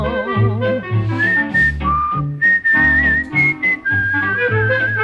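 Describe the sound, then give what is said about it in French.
A man whistles a cheerful tune while shaving, bright sustained notes gliding between pitches over a steady instrumental accompaniment. “Chaque matin, je siffle en me rasant.”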